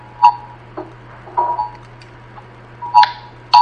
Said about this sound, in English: Everybody's phone's gone off at once.